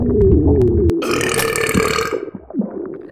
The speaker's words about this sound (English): Excuse me. I didn't mean to burp at you like that.